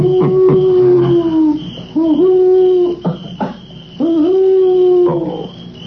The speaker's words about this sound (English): Wait a minute. I know what that was. That was an owl. An owl? Well, that's sure. What's the matter with me? Getting scared of a little old owl.